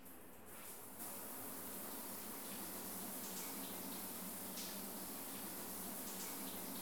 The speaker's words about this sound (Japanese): あ、シャワーのお湯熱くありませんか？大丈夫ですか？はい、このまま続けますね。